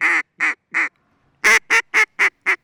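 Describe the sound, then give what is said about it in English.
A duck call blows loud, nasal quacks: three evenly spaced quacks, a short pause, then a quicker run of five, with no talking. “took his duck calling from the field to calling competitions.”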